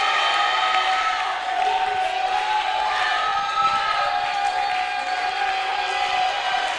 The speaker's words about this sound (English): Oh, I like your clap. I like your shout.